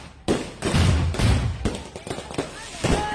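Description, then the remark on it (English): Fireworks stored in a U-Haul truck in Toledo, Ohio, set on fire by arson, go off in a rapid, irregular string of loud booms and crackling bursts, the blasts overlapping with a steady roaring rumble and some faint voices in the background. “they thought it was a good idea to keep all their fireworks in a U-Haul”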